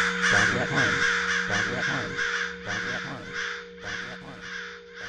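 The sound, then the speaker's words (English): A crowd of angry crows caws loudly and harshly over one another in a cacophonous aggregation, a dense, overlapping racket of mobbing calls that continues without pause, raucous. “Cacophonous aggregation is the scientific term.”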